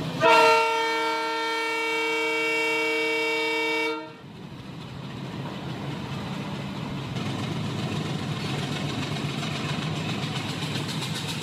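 A trial-run train on the Omanthai to Kilinochchi railway in Sri Lanka sounds a loud, sustained horn blast for about four seconds, followed by the steady rumble and rattle of the train rolling past on the tracks, with no one speaking.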